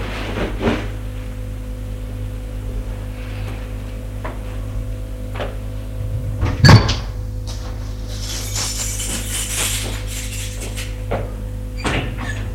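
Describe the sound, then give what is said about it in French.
The door of a tiny room is opened as a man comes back with a glass of water: a sharp latch click cuts through a steady low hum, followed by soft rustling and faint clinks, with no one speaking. “La porte est ouverte.”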